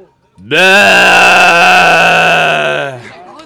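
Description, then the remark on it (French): A human voice imitates the bleat of a salt-meadow (pré-salé) ewe from the Manche, France, with one loud, sustained, wavering baa lasting over two seconds, alone, then trailing off. “je vais vous faire la brebis de présalé de la Manche.”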